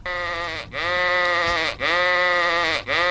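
A sheep bleats loudly, three long wavering baas in quick succession with brief breaths between them, no voices present.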